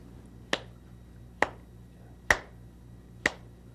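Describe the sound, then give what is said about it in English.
Four sharp, crisp hand claps land at a steady, evenly spaced pace, each one a quick bright smack against a quiet background with no voices; part of a clapping game in which one person claps a pattern for another to copy. “Well, I'll clap. Yeah? And then you clap just exactly what I clap.”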